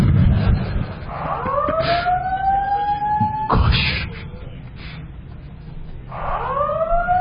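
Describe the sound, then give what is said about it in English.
An electronic alarm, set off by pressing the alarm button instead of the light button, wails in rising, whooping sweeps that repeat a few times, loud, with a brief exclamation from someone near the start and room noise underneath. “This is not the light button, this is the alarm button.”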